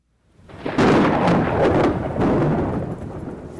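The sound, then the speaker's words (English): A deep rumble of thunder rolls in over steady, hissing monsoon rain, with a few sharper crackles early on before the roar slowly eases into continuous downpour. In Gundarabadi, a tiny tribal village in the eastern Indian state of Odisha. “Even the monsoon rains don't keep the women of Gundarabadi, a tiny tribal village in India's eastern state of Odisha, from patrolling the nearby forest at dawn.”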